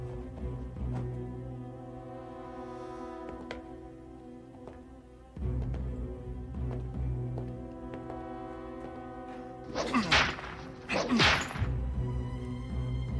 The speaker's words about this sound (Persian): شلاق.